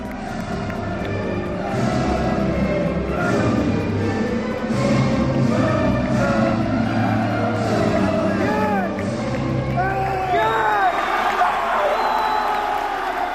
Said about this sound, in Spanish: estás escuchando a los más de 2.500 alicantinos que estallaban de júbilo en la madrugada del sábado al domingo en el centro de tecnificación con la victoria del luchador hispano-georgiano fincado en Alicante, Ilia Topuria, al derrotar por KO